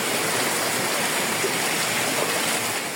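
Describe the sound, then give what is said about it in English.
A steady, dense roar of heavy rain from Hurricane Melissa, a Category 2 hurricane, pouring down in Santiago de Cuba, Cuba, loud and continuous like rushing water, with no pauses or voices throughout. “Rain poured down in Santiago de Cuba from Melissa.”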